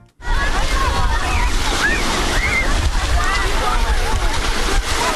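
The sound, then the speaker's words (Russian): Water of the Sea of Azov sloshes steadily against the shore at Mariupol in winter for several seconds, a dense, continuous wash of surf with low rumbling underneath and faint, indistinct higher sounds drifting over it. “А вот как зимует Азовское море.”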